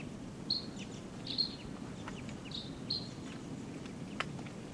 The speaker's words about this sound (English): There's a crossbill right here off the camp in a ponderosa pine looking down. Type 2 bird giving calls.